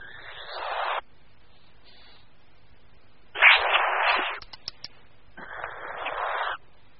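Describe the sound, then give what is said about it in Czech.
Three loud bursts of breathy hissing from European nightjar chicks defending themselves on the nest, each lasting about a second, with a few sharp clicks between the second and third bursts. “Mláďata na hnízdě se brání hlasitým syčením.”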